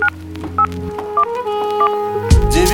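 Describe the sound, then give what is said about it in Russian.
A series of short, crisp keypad beeps from a mobile phone, several tones tapped out at an uneven pace over a low humming background, ending in a louder burst of noise. “Но сил хватает, чтобы кнопки нажать на мобильном.”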